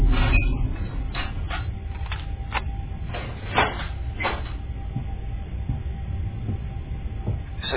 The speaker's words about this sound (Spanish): Abre la heladera, vacía las alacenas.